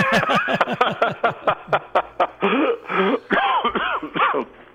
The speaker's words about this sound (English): I have a cough, but I don't think I have a virus.